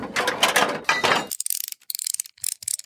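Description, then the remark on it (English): A ratchet wrench works on a car part: a dense, rapid run of metallic clicks in quick strokes, then sharper, separate ticking clicks in short bursts. No one speaks. “Wait, do you not know what a wrench is?”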